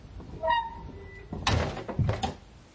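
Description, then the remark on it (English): A door creaks on its hinges, then swings shut behind a departing woman with a heavy thud followed by a second latching knock. No voices are present. “The door closed behind her, and she started down the mountain path”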